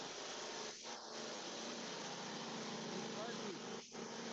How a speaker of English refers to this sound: just started his lawnmower.